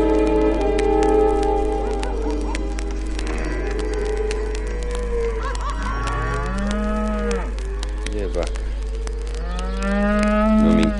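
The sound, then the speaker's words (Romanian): Several cows moo in overlapping, drawn-out calls, some low and some rising, over a steady low hum, with no talking. “Niciodată că o să ajung eu, împăratul, care avea mii de slugi să pască vacile.”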